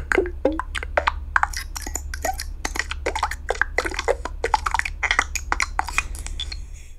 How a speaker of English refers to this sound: So typically what I do is I create a bunch of button sounds. These are would-be buttons for a Yahoo widget.